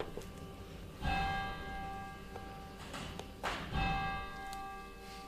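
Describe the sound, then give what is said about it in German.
Two resonant church bell strikes on a Sunday, about two and a half seconds apart, each ringing out with long sustained harmonic overtones over a low background hum. “wir lassen die Glocken noch kurz, jetzt immer noch nicht.”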